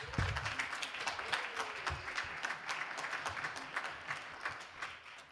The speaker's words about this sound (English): So let us welcome Amelia with a warm round of applause.